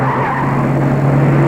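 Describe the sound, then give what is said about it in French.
A loud, sustained tire squeal as a car with failing brakes skids and swerves in all directions on a straight road with no other cars, a steady screeching tone with engine roar beneath, cutting off abruptly after about a second and a half. “Heureusement que la route est une ligne droite, sans voiture, mais la voiture va dans tous les sens.”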